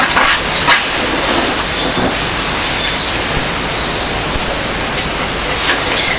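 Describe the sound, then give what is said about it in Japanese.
A train rolls steadily along the tracks, a loud continuous rumble and hiss with faint recurring clacks of wheels passing over rail joints, no voices. “こっちがガタンゴトンガタンゴトンってするんだね。”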